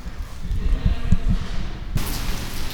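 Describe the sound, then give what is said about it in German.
Steady, dense heavy rain hisses with a low rumbling undertone, growing brighter and more splashy partway through, heard from outside under a porch roof. “So, Update, ich stehe jetzt hier draußen unter dem Vordach und es regnet immer noch wie bekloppt und ich habe aber noch keinen Bock, durch den Regen zu laufen.”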